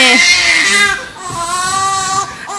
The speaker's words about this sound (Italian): No, non lo so, sembra che stia seviziando un povero bimbo.